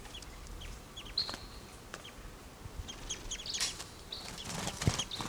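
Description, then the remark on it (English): A wild male bird's wings flap in a few soft, rustling bursts, mixed with thin, high chirps and calls over a quiet outdoor background. Nobody speaks. “Here's a wild male.”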